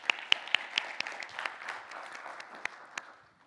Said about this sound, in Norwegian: Og takk for en nydelig lovsang. Kan vi ikke gi det en god applaus, altså?